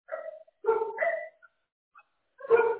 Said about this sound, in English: Stop barking, you clowns.